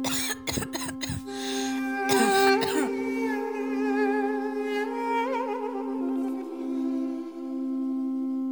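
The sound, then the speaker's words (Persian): A child's burst of heavy, harsh coughing in a village, four or five quick coughs at first and a couple more soon after, over a steady sustained tonal drone that carries on once the coughing stops. “کودک چشمانش را می مالد، نفسی عمیق می کشد، ناگهان صدای سرفه‌های سنگین کودک سکوت آبادی را در هم می شکند.”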